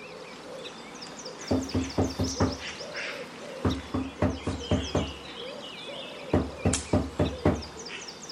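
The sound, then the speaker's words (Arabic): Three rounds of firm, evenly paced knocks on the door of Diko's house as the elephant knocks more than once, each a quick run of about five or six raps, separated by short pauses, with faint birds chirping in the background. “أكثر من مرة طرقت الباب ولكن لم يفتح أحد.”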